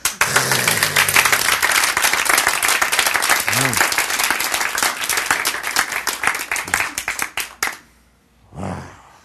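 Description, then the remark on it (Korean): A crowd breaks into loud, dense applause with many hands clapping at once, thinning into scattered claps before stopping; a brief voice murmurs at the end. “그래서 무너졌도다 큰 손 이렇게 나오는 거 박수.”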